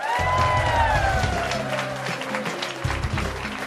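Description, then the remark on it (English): A live crowd at the Belly Up Bar in Aspen, Colorado claps and cheers in a dense, steady wash, with a few high gliding whoops early on and a low humming tone running underneath, holding strong throughout. “From American public media and in front of a lively crowd at the Belly Up Bar in Aspen, Colorado, this is Marketplace.”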